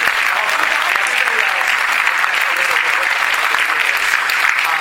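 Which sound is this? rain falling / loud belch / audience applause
audience applause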